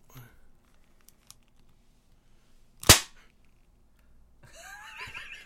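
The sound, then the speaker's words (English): A toy cap gun, with caps loaded in the back of a toy figure, fires one sharp, loud pop that cuts through a quiet background, followed a moment later by murmuring voices and some rustling. “Well, it's one of these. Cap gun.”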